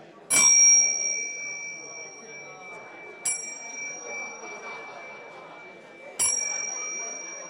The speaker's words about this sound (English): You'll have a few minutes. I'll ring the bell.